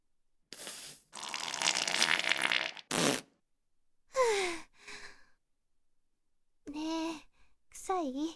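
A string of fart sounds with gaps between, from a person with built-up gas whose lower belly is being pressed by hand: a few airy, hissing blasts first, then several shorter, squeaky tonal ones with wobbling pitch. No words are spoken.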